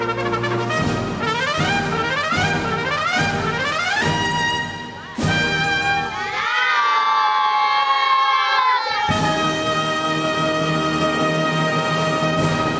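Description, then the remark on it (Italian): A crowd of young children at an elementary school in Rome shouting and cheering loudly together, their voices rising in rhythmic bursts, with drawn-out, swooping cries in the middle before the noisy chanting resumes. “La simpatia dei bambini di una scuola elementare di Roma.”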